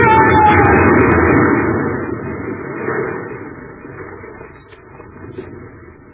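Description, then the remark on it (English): A good-sized rock, given a shove, tumbles down a mountainside in a dense, rumbling clatter, loudest at the start and gradually fading away over about six seconds, with no voices. “I'm going to try to give it a shove down the side of the mountain.”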